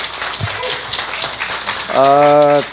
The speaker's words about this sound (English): 给他们这里掌声来欢迎他们吧，好不好 ？Applaud them, encourage them.